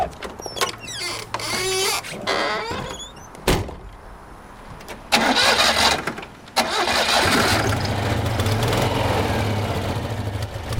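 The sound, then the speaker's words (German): A Citroën 2CV's small air-cooled engine cranks and catches, with a few mechanical clunks and squeaks before it, then settles into a steady, rattly idle. No one speaks. “Dieses sanfte Schaukeln klappert was, also es ist halt eine Ente, ja?”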